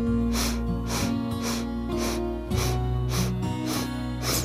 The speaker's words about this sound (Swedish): Och så börjar du att andas in genom näsan. 8 sniffar för att fylla lungorna helt.